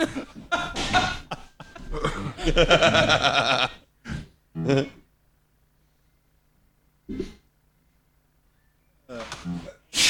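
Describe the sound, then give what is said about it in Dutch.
A sharp, noisy sneeze bursts out amid a jumble of voices and laughter, followed by a few short vocal sounds separated by quiet pauses. “Gezondheid. Bless you and all you spray the on.”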